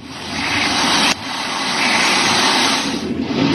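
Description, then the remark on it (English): A loud, steady roar of river water gushing past a mill building in Connecticut, in video released by the Brookfield Fire Department, a dense hissing rush that barely changes over a few seconds, with no voices. “The Brookfield Fire Department released some video in Connecticut of a mill building where the river is just gushing past it.”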